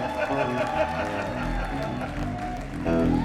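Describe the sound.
An audience claps steadily for a few seconds for their manager, a dense wash of applause mixed with scattered cheers and shouting voices, swelling slightly louder toward the end.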